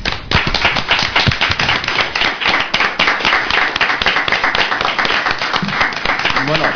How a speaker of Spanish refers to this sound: Y un aplauso.